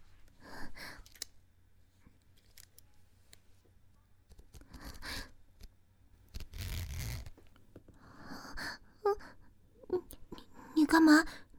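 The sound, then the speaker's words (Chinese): A zipper is pulled once in a short, rasping burst about a second long, amid soft whispering and breathy sounds in an otherwise quiet space. “你干嘛拉拉链吗？”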